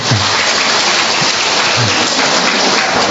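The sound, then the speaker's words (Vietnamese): An audience applauds in thanks to God, a dense, steady roar of many hands clapping that holds at the same loudness throughout, with faint low vocal sounds underneath. “Rồi, chúng ta cho tràng pháo tay tạ ơn Chúa.”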